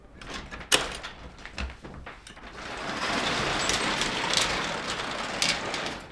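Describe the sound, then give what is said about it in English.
A garage door in the exterior wall of the Impression 5 building clanks and rattles as it starts opening, then a steady mechanical rumbling and whirring rolls on for several seconds with no one speaking. “And we're going to open this garage door.”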